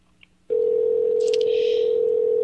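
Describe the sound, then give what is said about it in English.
A loud, steady telephone tone as a call is placed to the governor's office starts abruptly after a short quiet moment and holds unbroken to the end, with a faint brief chirp partway through. No one speaks. “I don't think they're going to answer the phone, folks.”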